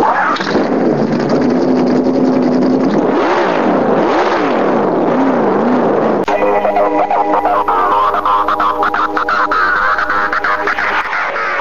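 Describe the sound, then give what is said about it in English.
Loud race car engines start, roar and rev as a race gets underway, their pitch sweeping up and down in repeated surges, before the sound shifts into a denser, steady mechanical drone with sharp crackles. “Drivers, start your engines.”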